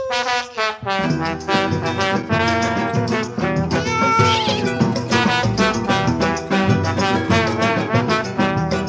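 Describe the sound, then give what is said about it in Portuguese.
Loud, repeated cat meows and drawn-out yowling, likely voiced by a person imitating a cat, over a dense, rhythmic band accompaniment that continues throughout. “Pega esse gato aí, senhor!”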